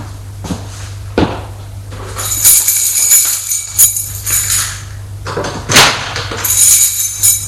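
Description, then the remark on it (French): An apartment door is unlatched and opened: a few sharp clicks and knocks, then long high-pitched creaking squeals as it swings, all over a steady low hum. “Lorsque Jean-Pierre ouvre la porte de son appartement, ça sent le renfermer.”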